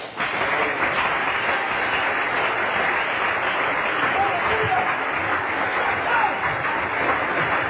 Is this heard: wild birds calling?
no